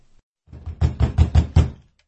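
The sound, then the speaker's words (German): At night, a woman pounds with both fists on the door of a hospital ward in a quick run of about five loud, booming thuds, with no voices. “Währenddessen hämmerte die Frau mit beiden Fäusten gegen die Tür der Krankenstation.”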